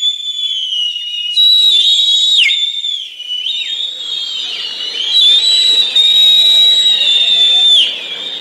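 A loud, shrill whistle made with two fingers in the mouth holds a piercing high pitch for several seconds, wavering and dipping briefly before surging back even stronger, with no voices.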